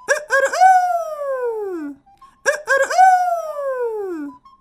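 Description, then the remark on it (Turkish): A rooster stretches its neck and crows twice, each call opening with short choppy notes and then sliding into a long, loud, harmonically rich wail that slowly falls in pitch before fading. “Tilkinin övgüleri ruhunu öylesine okşamış ki övgüseli bittiğinde şöyle boynunu uzatıp gerçekten de çok güzel ötmeye başlamış.”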